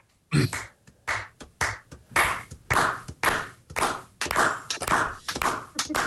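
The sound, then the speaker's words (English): A group of musicians clap together in a steady, fairly loud rhythm over a Skype call, around a dozen claps spread over several seconds, with no talking. “Here, let's just see if we can clap along together.”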